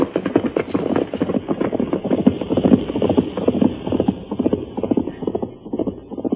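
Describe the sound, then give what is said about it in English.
Horses gallop in a steady, rapid drumming of hooves, a dense rumble of clip-clop beats that stays loud and continuous throughout, with no voices over it. “They galloped straight into the valley.”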